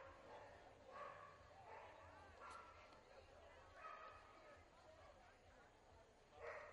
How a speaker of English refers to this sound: There's a strike, and if you can hear those barks in your crowd mic, you're not going crazy. It is, in fact, dogs here. It's Bark in the Park at Banner Island Ballpark.